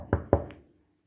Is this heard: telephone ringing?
no